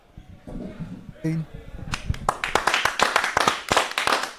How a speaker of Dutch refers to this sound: Ja, en onder luid applaus is aangeschoven hier aan de podcasttafel hoofdtrainer